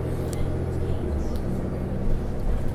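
A steady, droning low rumble while riding on a GO train or commuter bus, with a constant engine and road hum and faint rattles above it.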